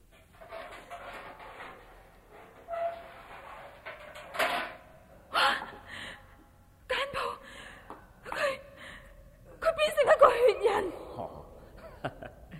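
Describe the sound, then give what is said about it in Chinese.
A door is unlatched and opened, with several sharp clicks and knocks followed by a drawn-out hinge creak, set against quiet breathing and soft gasps nearby. “打开门。”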